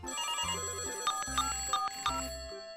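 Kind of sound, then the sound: signal or alarm, telephone ringing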